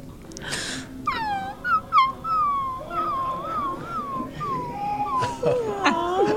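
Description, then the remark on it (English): A person imitates a puppy's whimpering: a string of high, wavering whines and squeaky yelps rising and falling, fairly loud, with no other talking. “I'm also really good at puppy dog whimpering, which is also strange, but hey, so.”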